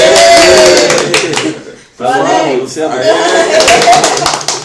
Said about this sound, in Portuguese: Então, uma salva de palmas para a vovó do Galeão